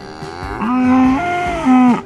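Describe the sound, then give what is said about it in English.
A cow moos loudly, one long drawn-out low call followed by a second shorter moo, with no talking. “And from the animal world, the emotional lives of cows.”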